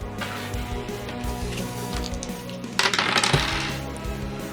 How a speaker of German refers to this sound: Dann würfel einmal Schadenspunkte. 4d10, bitte.